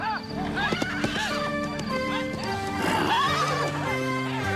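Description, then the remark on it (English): Horses whinny repeatedly in high, wavering cries while hooves clatter in a steady clip-clop beneath them, the sounds layered and fairly loud throughout, as the pack leader leads the horses away from rustlers. “Evidently pack leading the horses away from more rustlers who happen to be there.”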